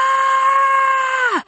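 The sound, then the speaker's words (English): A single loud, excited shriek of greeting from a woman who then rushes across a living room to hug someone arriving at the door, held at a steady high pitch for over a second, then sliding downward as it abruptly cuts off. No talking. “The shriek set Hannah's ears ringing as she opened the door to the set”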